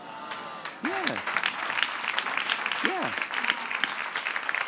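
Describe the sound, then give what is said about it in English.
An audience breaks into sustained, dense applause after a brief quiet start, with a couple of short rising-and-falling vocal whoops cutting through the clapping. “You see, the people who aren't clapping, they're the suspects of the crime that they couldn't do anymore.”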